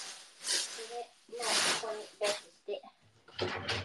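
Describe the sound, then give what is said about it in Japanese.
Repeated bursts of loud, crinkly rustling as a summer futon is handled and shaken out, coming in uneven waves, with a voice murmuring between and beneath the noise. “今日はこれで、ごめんね、ガサガサして。うるさいね、ガサで。”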